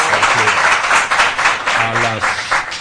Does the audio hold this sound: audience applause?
yes